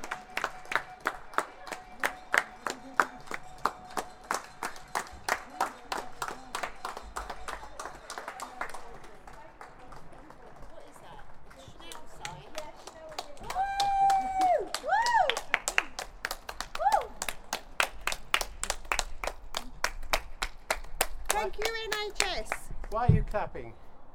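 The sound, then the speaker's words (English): A group of people clap together in a fast, steady rhythm that carries on throughout, applauding the NHS and services such as the police and fire brigade, with children's voices and chatter rising over the applause partway through. “Why are we clapping?”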